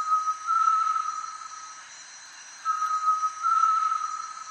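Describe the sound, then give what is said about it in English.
Pure, tremulous whistled notes of a great tinamou in the lowland jungle of Central or South America, held steady at a single mid pitch and broken by a short pause, over a constant thin high-pitched insect hum. No one speaks. “This eerie sound can be heard in the lowland jungle throughout much of Central and South America. It's the voice of a great tinamou.”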